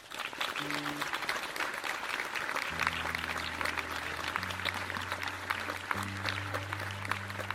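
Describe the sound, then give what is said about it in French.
Sustained applause from an audience welcoming the next participant, a dense, steady wash of many hands clapping for several seconds, with low sustained musical notes shifting underneath. “Je vous prie d'applaudir très fort”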